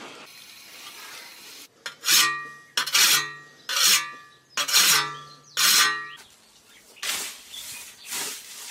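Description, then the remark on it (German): A broken whetstone swipes rhythmically along a scythe blade, about seven loud rasping strokes, each ringing with a bright metallic tone, the last two softer and duller. No voices. “ich kann dir auch sagen, eine Sense sollte man auch an der kompletten Klinge schärfen, nicht nur am Anfang.”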